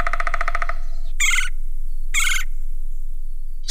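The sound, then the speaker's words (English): A woodpecker opens with a quick, rattling run of calls, then gives two harsh, squawking cries about a second apart, clear with no one talking. “And between looking for a mate or a meal, woodpeckers will peck up to 12,000 times a day.”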